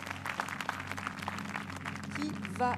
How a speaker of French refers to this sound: On peut encore l'applaudir. On va les applaudir tous les trois.